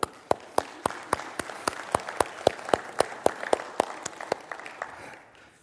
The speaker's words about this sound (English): Today, we applaud you. As we did earlier, can we take acknowledgement as a childish husband? Let's just applaud.